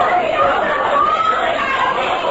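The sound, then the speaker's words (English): A crowd of people gathered for a raffle, chattering at once: a dense, steady murmur of overlapping voices with no single speaker standing out, holding an even, fairly loud level throughout. “All right, folks. Now, don't crowd. There's plenty of room for everyone.”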